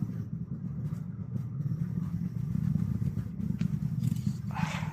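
A deep, continuous rocket launch rumble fills the low end, steady and powerful, with a roaring, crackling texture building slightly louder over several seconds as the vehicle goes supersonic and reaches maximum aerodynamic pressure, no voices present.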